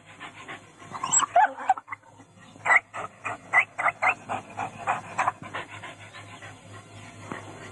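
A dog pants in a quick, steady rhythm of breathy bursts, with a few faint whimpery squeaks near the start and the panting trailing off toward the end.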